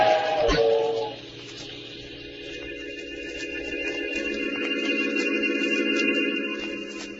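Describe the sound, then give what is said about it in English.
A loud, sustained steam whistle blows over the heavy roar and hiss of a passing train, with a sharp clank near the start and steady rumbling that swells toward the end. “When the train had passed, I saw what was left of his body on the tracks.”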